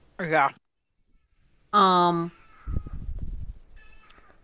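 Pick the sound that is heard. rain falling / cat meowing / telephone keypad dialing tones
cat meowing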